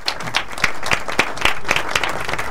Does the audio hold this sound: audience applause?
yes